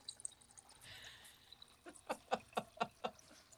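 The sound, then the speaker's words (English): Water being poured into a glass, a soft trickling stream followed by five quick, evenly spaced glugs. Fairly quiet, with no voices. “pour some water and drink it just so you can really get a glimpse of like what I hear every morning”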